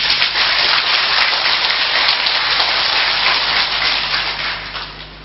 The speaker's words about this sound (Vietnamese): Hãy dâng cao tràng vỗ tay thật lớn.